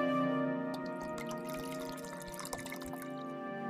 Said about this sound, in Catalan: Aigua.